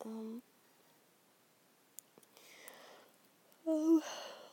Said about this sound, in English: I'm yawning a lot. We need to go to sleep soon.